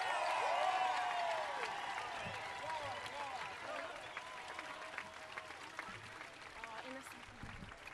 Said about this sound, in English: While my family and partner's family is coming up here, can we just have a massive round of applause for all the organisers who've pulled off this incredible march today?